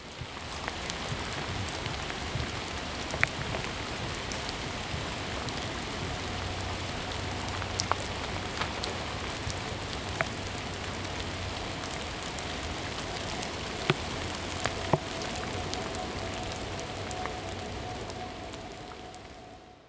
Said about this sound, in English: Ravenna Park, rain drizzle ambience 01 dot wave.